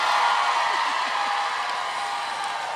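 A dense, steady wash of audience applause, many hands clapping at once with scattered cheering, holding at a fairly loud level and tapering slightly toward the end.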